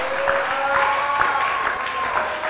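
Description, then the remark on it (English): An audience at a sermon claps and cheers steadily throughout, a dense, continuous wash of applause with a few sustained voices or whistles rising above it, fairly loud. “Oh, come on, you should have clapped and shouted and shouted.”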